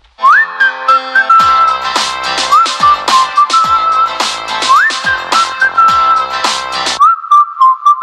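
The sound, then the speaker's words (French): A high, sliding whistled melody plays loudly over punchy drum hits and a steady musical backing, with no talking, ending on a held whistled note; presented as the whistling of a man's ringing ears, heard through a telephone held to his ear. “moi j'ai les oreilles qui sifflent”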